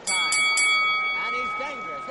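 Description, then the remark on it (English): A boxing ring bell marking the end of a round in a professional boxing match clangs in three quick strikes, its bright metallic tone ringing on and sustaining as a steady hum, with crowd noise and voices murmuring underneath. “A professional boxing match is made up of 12 periods, called rounds. At the end of each round, a bell sounds.”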